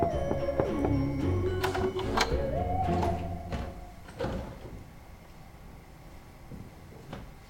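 Several sharp knocks on a door, irregularly spaced, alongside a creaking, sliding mechanical sound early on; no one speaks.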